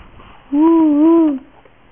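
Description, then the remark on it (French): A child's voice imitates an owl with one drawn-out, wavering "hooo" lasting just under a second, fairly loud, with quiet background noise before and after. “C'est le hibou? Il fait quoi le hibou?”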